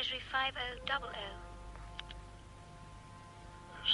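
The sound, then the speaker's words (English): A police inspector's telephone call connecting on the line: brief muffled, filtered voice-like bursts and clicks at first, then a steady electrical hum on the line with a couple of faint ticks before it opens up. “I'll phone him at once.”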